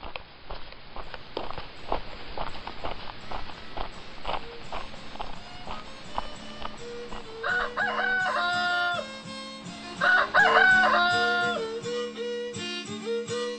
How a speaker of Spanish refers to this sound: Se dice que con el canto de los gallos apareció el sol y él se convirtió en una estatua.